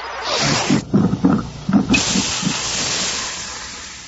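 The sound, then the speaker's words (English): A coffee machine hisses steam in a loud, steady rush that cuts out briefly amid some low gurgling bursts, then resumes and keeps hissing continuously to the end. “That's right. Make your coffee.”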